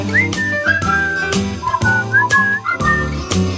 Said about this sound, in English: We whistle at this part. Here we go now.